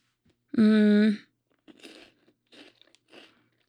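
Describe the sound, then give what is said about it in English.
A brief drawn-out vocal hum gives way to several crisp crunches of someone chewing a crunchy chocolate wafer bar placed on their tongue, coming in short irregular bursts. “Okay, so you're gonna place it on my tongue and then I'm gonna chew?”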